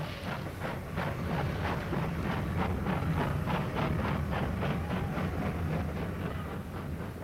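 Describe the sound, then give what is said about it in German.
A large steam locomotive pulls away, its loud, rhythmic chuffs and hissing, snorting bursts repeating steadily over a dense, continuous rumble, with no voices. “Und wirklich, mit mächtigem Fauchen und Prusten, zog die große Lokomotive wieder an.”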